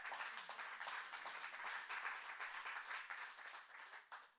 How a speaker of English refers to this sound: So first of all, thank your farmers. Give them a round of applause.